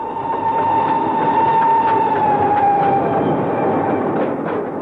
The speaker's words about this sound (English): The train roared on into the night.